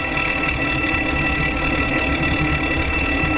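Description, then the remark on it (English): A fire alarm bell rings continuously for a fire drill, a loud, steady metallic clanging that holds at an even level without pause for the whole stretch. “Oh, we have a fire drill.”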